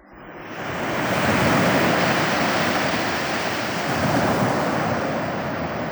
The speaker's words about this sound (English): I flung myself into the surf, and the spray flew up and blinded me.